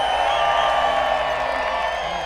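A large crowd on a Thursday night at Winterhall cheers and whoops in a sustained, dense roar, with scattered shouts and some clapping mixed in, holding steady loud for a couple of seconds before easing slightly.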